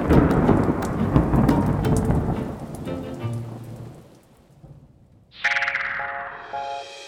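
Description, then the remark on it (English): Heavy rain pours steadily with a deep rumble of thunder rolling beneath it, fading out before a bright chiming musical jingle begins near the end. “And nimbus clouds bring rain.”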